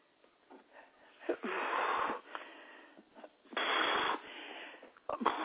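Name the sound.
heavy huffing breaths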